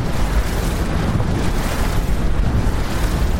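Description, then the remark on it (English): A steady, loud roar of a flotilla of fast boats arriving at islands from the mainland, carrying doctors and charity workers, engine rumble mixed with rushing wind and spray, continuous throughout with no voices. “A flotilla of fast boats arrives from the mainland.”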